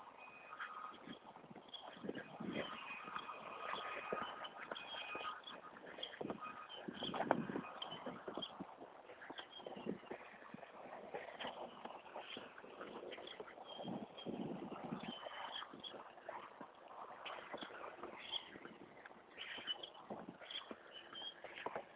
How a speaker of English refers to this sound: Grackle, boat-tailed grackle.